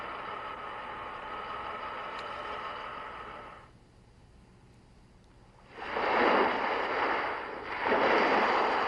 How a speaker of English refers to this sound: Wave coming to shore. Coming to shore.